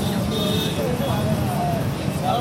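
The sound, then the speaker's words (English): Steady, dense street traffic rumbles nearby on a sticky late night along the Corniche, the Red Sea waterfront in Jeddah, Saudi Arabia, with muffled music blaring from passing cars and an indistinct murmur of voices from strolling families mixed into the constant roadside din. “Nearby, cars blare music and traffic.”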